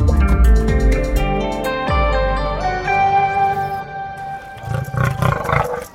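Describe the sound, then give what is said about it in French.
A caged lion in a zoo in Gaza, in the Palestinian territory, roars loudly with deep, rumbling, drawn-out bellows followed by a series of shorter pulsing grunts near the end. No one speaks. “Un lion en cage, au sens propre du terme.”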